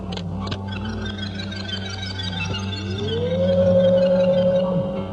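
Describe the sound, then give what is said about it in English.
A steady mechanical hum with a few faint clicks, then a motor whine sweeps upward and holds as a teardrop-shaped pod of bright, seamless metal is lowered into a chamber, fairly loud, with no voices. “Lower the pod into the chamber.”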